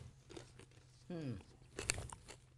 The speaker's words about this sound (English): This actually isn't bad. It has a satisfying crunch. Mm. It was good. I honestly can't taste the pretzel at all. I can't either, but I like the crunch.